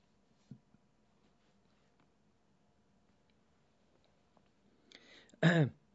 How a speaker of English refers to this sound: In 1 Peter 2, it just take me a minute to get there. I'm slow at turning the pages.